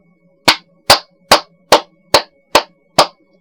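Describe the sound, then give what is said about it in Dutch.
Seven sharp hand claps at a steady, even pace, each loud and crisp with a very short, dry decay and almost no echo trailing after. “Galm is goed te beoordelen als gevolg van een impulsgeluid, zoals klappen in de handen.”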